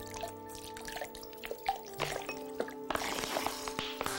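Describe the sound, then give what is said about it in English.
Mineral water is poured from a bottle into a glass in a kitchen, a soft gurgling trickle with bright dripping splashes that swells into a fuller, steadier pour toward the end. Faint background hum underneath. “Dooley pours water into a glass from a bottle.”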